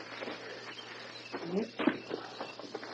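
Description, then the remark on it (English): Steady rain patters through dense jungle foliage, a soft continuous hiss with scattered drips, while a voice briefly murmurs partway through. “Once it isn't raining. We'll find dry wood in open spot.”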